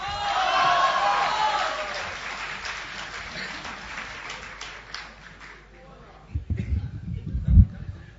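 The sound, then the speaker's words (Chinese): A large audience applauds with some cheering, loud at first and gradually tapering off over several seconds, followed by a few low thumps and voices at the end; the audience at a Deyunshe xiangsheng (crosstalk comedy) show. “感谢各位掌声鼓励啊！”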